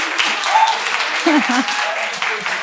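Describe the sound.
An audience applauds steadily for the whole stretch, a dense, even wash of many hands clapping, with a few brief voices or cheers rising faintly under the clapping.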